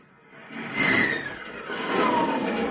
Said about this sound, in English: young men of America, do you hear that sound? That's the sound of one of America's newest defenders of the American way, an F-89 Scorpion jet, an airplane that travels faster than the speed of sound.